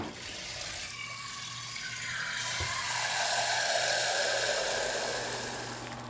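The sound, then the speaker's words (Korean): Steady hissing, bubbling water like a kettle coming to a boil, joined midway by a louder rush of water filling a container, its pitch shifting as it fills. Continuous, no voices. “물 끓는 소리 물 받는 소리 모두 들으면서 마무리하겠습니다.”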